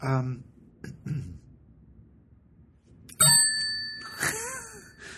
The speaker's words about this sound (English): I realized I hadn't used the bell, and I thought, he stopped? I'm going to use the bell.